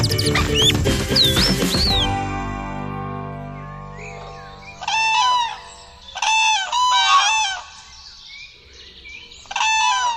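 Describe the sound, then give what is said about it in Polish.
A dense burst of loud chirping and squawking opens, then fades. Clusters of harsh, nasal bird calls follow in short repeated bursts, fairly loud, with quiet gaps between. “To strasznie nerwowe życie jest tych ptaków.”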